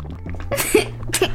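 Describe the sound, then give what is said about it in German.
Someone drinking water: two short, breathy bursts about half a second apart, like a sip and a swallow or exhale, over a low steady hum, with no talking. “Einen Moment, einfach ein bisschen Wasser trinken.”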